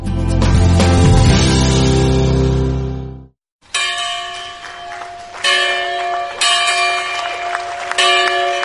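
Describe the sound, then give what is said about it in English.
A large church bell of the historic First Baptist Church of Williamsburg, Virginia rings loudly, its deep tolling decaying, then after a brief pause lighter bells chime in a repeating, overlapping peal, marking President Barack Obama's opening of the National Museum of African American History and Culture. “With the ringing of a church bell from the historic First Baptist Church of Williamsburg, Virginia”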